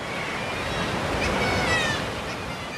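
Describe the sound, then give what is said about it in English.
A steady, loud roar of surf washing and breaking against sea cliffs, with faint high cries of kittiwakes threading through the wash now and then, on Skellig Mhíle off Kerry, Ireland. “Straight off the boat and into a cathedral of crying kittiwakes and crashing waves.”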